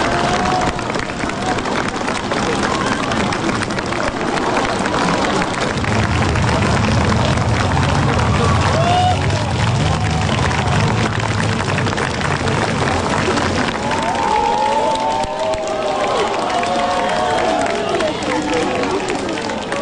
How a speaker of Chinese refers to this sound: 道路两旁站满了师生，大家挥手欢呼，热烈欢送习近平主席。